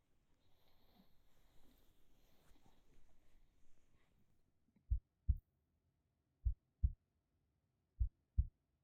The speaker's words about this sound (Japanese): 信じられませんか？でしたら私の鼓動を感じてみてください。